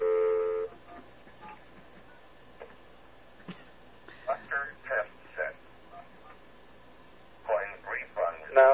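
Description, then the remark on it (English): Payphone coin tones: a steady electronic tone at the start, then quick clusters of short beeps in two bursts over a faint, hissy phone-line background. “It's going to come up with an error message that says, I know you're trying to cheat the phone because the phone doesn't hold that many nickels.”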